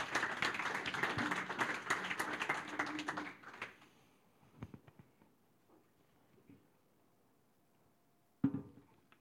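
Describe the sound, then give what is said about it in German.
A burst of audience applause with many hands clapping densely for about three seconds, then fading out to a few scattered claps and a single sharp clap near the end. “Gebt ihr mal einen Applaus, oder?”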